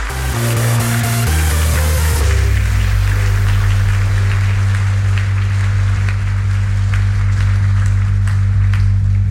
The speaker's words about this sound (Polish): So the team that we are going to bring to Rome is Explicit Motion. Zapraszamy, zapraszamy na scenę. Prosimy o brawa, prosimy o brawa.